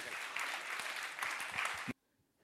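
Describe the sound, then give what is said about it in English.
A crowd claps steadily in dense, continuous applause for David for nearly two seconds, then it cuts off abruptly into near silence. “Let's give David a round of applause and we'll meet him.”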